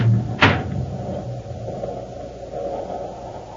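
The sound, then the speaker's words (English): A single sharp rattling clunk as a locked door is tried during an attempt to escape in the Space Patrol radio show, fairly loud, followed by a steady low background hum with no voices. “Open the door, hurry. It's locked, sir.”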